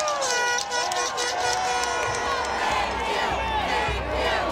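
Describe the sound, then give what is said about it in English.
A crowd of thousands gathered outside the Capitol building on March 12, 2011, as the Democratic senators return to Madison, cheers and shouts continuously, a dense wash of many overlapping voices with scattered whoops rising above it, steady and loud throughout. “Thousands of people gather outside the Capitol building.”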